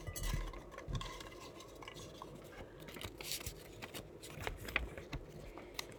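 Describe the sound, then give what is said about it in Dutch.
Paper slips rustle and shuffle inside a glass bell jar, with light clinks and scraping as a hand stirs through them to draw a winner in a book raffle in a shop, a steady busy rummaging for several seconds without talk. “Kun jij weer in de glazen stolp gaan graaien?”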